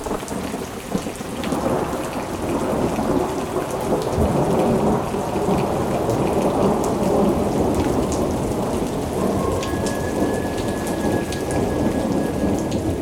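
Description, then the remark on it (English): Steady heavy rain pours down with dense, hissing patter while low thunder rumbles through, a full thunderstorm with no voices, consistently loud throughout. “It was a dark and stormy night at Rosie's Juke Joint in the Witch City of Salem, Massachusetts.”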